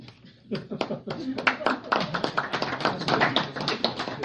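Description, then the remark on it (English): Audience applause starts after a brief quiet moment, with many hands clapping in a dense, irregular patter that holds at a steady, moderate loudness to the end. “Free to clap if you want.”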